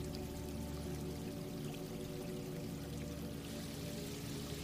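A steady, unbroken rush of flowing stream water, close by and even in loudness throughout, with no voices over it.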